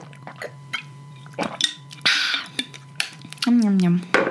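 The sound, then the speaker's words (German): Sipping homemade juice from a glass: faint clinks of glass, a couple of wet slurps and swallows, then a short gliding voiced murmur near the end. “Ich trinke auch noch einen Schluck, es ist einfach zu lecker.”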